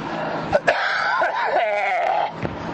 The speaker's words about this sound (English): And my the mic is right by my chest, so maybe you get to hear the action going on in my lungs when I'm doing that cough. It doesn't seem so good.